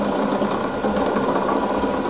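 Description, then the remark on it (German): A small motor stepping very slowly and unevenly, step by step, with a steady mechanical whir and a quick train of clicking ticks, fairly loud, with no one talking. “Der Motor macht sehr, sehr langsame Schritte und hat nicht so eine gleichmäßige Bewegung, sondern macht eben einen Schritt für Schritt für Schritt für Schritt.”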